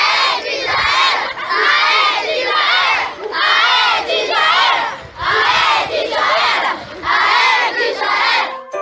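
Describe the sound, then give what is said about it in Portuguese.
A protest crowd with placards loudly chants a rhythmic battle cry in repeated bursts, many voices shouting together with brief pauses between each phrase, celebrating the extinction of the mosquito in a school video from Alvorada, Rio Grande do Sul, Brazil. “No vídeo, uma manifestação com cartazes e grito de guerra comemora a extinção do mosquito do planeta Terra.”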